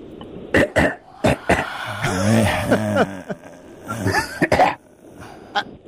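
cough

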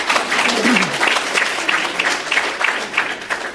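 audience clapping

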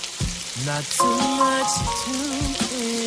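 frying pan sizzling

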